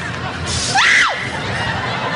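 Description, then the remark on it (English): A woman in a video being played lets out one short, high-pitched scream that rises and then drops away, heard over a steady murmur of background noise. “She's screaming at nothing.”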